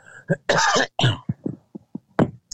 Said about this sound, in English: I really apologize for the coughing. I'm sorry. It is not COVID.